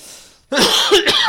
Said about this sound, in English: That cough is quite new. Yeah, it's the first time we've done it this evening, I think.